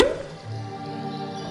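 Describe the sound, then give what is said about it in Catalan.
A single sharp, hollow pop of a cork being pulled from a bottle right at the start, followed by a soft, lingering ringing tone that fades slowly. No one speaks. “Destapa'l.”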